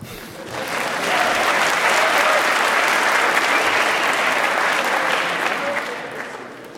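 An audience at a session claps steadily for an audience member who provided a laser pointer, a dense, even wash of applause that swells quickly, holds at full strength, then tapers slightly toward the end.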